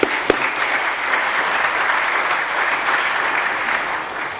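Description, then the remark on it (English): A crowd at an event claps steadily for the organizations that helped bring the event, a dense, even wash of applause that holds at a constant level from start to finish with no voices standing out. “So how about we give them a big round of applause for helping us bring this event out.”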